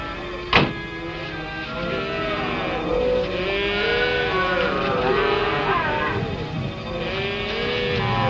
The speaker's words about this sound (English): What are those calves doing there?